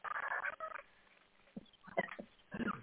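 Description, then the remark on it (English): A cat meows in a drawn-out, whiny call, then gives a few shorter, softer mews with brief pauses between them, ending on another strained meow. Fairly quiet, with no talking. “Well, you've got your pets too, right? So yeah, you're beautiful. The two pets. Kitties.”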